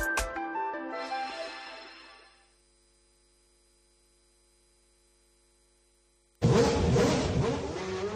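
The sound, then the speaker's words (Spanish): A McLaren Formula 1 racing car engine suddenly roars in loud near the end, after a fading chime-like tone and a long stretch of near silence with a faint electrical hum. “Escuchen cómo suena la radio en el coche de un campeón.”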